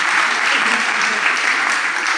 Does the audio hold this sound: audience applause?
yes